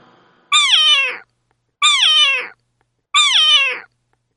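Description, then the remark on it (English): A cat meows three times in a steady, evenly spaced rhythm, each meow loud, close and drawn out with a falling tone, separated by brief silences. “C for cat.”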